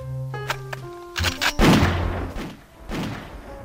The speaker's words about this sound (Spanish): Uno de los oficiales hizo sonar su pistola para ahuyentar a un hombre en el bote. Los disparos pudieron oírse por todo el Titanic.